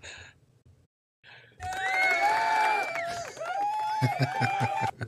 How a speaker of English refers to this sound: Coach, we have some new bells and whistles in there. You just got to, you know, just go with it. Good crowd in the studio, right? Yeah. That's right. Yeah, they're going crazy. Great crowd in the studio.